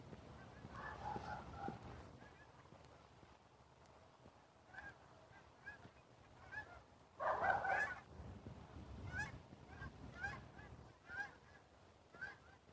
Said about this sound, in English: I don't know if you could hear those geese or not, but there's been a lot of geese around.